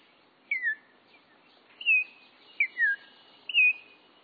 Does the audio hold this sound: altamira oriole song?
yes